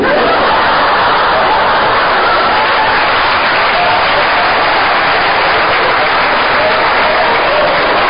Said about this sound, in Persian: خدایی شما با این دست زدنتون پدر من پره.